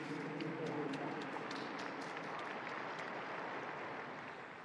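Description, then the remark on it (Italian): A large audience applauds steadily for Orthodox and Catholic Christians of the Eastern churches, a dense wash of clapping that stays loud throughout and eases slightly toward the end, with faint crowd murmur mixed in. “E facciamo un applauso ai nostri fratelli ortodossi e cattolici delle chiese orientali.”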